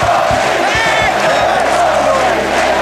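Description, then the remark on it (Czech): A packed sports-hall crowd roars and cheers continuously at an ice hockey match as Czechoslovakia wins the world championship for the sixth time, loud and dense, with scattered whoops and shouts rising above the steady wall of noise. “Sportovní hala praská ve švech a republika jásá.”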